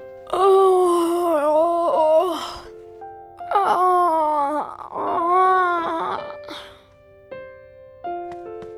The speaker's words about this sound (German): Wenn ihr müde seid, müsst ihr dann auch so gähnen wie ich?